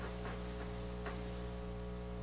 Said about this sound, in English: I think somebody's using a weed eater outside of the studio window. I think that's the humming noise you need.